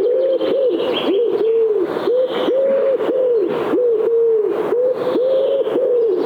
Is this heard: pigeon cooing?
yes